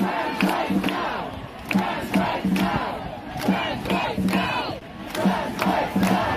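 A large crowd chants in unison outdoors at the April 19th emergency trans rights demonstration in London's Parliament Square, protesting the UK Supreme Court's decision excluding transgender women from the legal definition of woman; voices rise in rhythmic bursts with short pauses between phrases, loud and dense, over a steady roar of many people.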